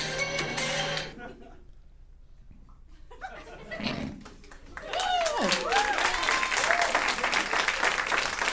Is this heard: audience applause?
yes